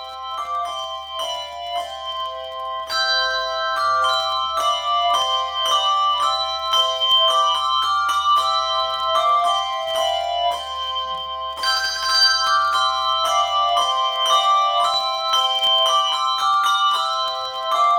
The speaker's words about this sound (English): The 12 Bells A-Ringing section includes six tunes arranged for 3 to 6 ringers and 12 bells. Listen to a section of Deck the Halls.